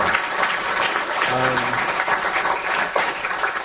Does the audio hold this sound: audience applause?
yes